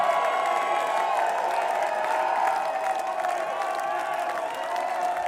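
A large concert crowd at the Eclipse Theater claps and cheers steadily for the band, a dense wash of applause with scattered whoops and shouts rising over it, holding at a fairly even loudness throughout.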